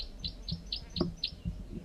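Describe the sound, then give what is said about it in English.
A wild male bird repeats short, high chirping calls at a steady, rapid rhythm, about five or six sharp notes in two seconds, with low rumbling background noise underneath. “Bird form, three gives calls.”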